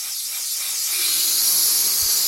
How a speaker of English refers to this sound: No, tragically, this isn't the sound of a laminating machine. It's a helium machine at the back of a tiny, crowded office supply store in Brooklyn.